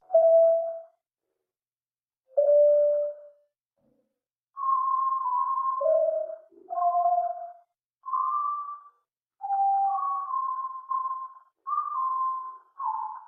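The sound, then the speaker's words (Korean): A series of clear, high-pitched, piano-like electronic tones in short phrases, some sliding or wavering in pitch, with brief pauses between them and no voices. “얼핏 들으면 고음의 피아노 소리나 새소리 같기도 한 이 고음역의 음향은 한국 국방부가 대북 심리전에 사용하는 자유의 소리 방송에서 발췌한 것인데 본래 국방부가 송출하는 방송과는 전혀 다릅니다.”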